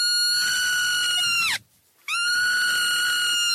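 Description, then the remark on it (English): A baby marmot screams twice, two loud, shrill, sustained cries, each about a second and a half long, separated by a brief silence. The pitch dips sharply as the first call ends. “And just for reference, this is what a screaming baby marmot sounds like.”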